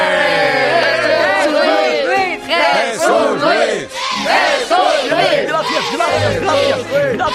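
A large audience cheers and whoops loudly and without pause for several seconds, many voices rising and falling in pitch over a steady wash of applause.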